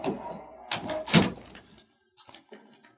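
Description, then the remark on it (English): A door is yanked open quickly, a sharp rush and clack, then a pause and a few softer knocks and shuffles. No one speaks. “When I didn't answer, the door opened real fast and somebody came in the room.”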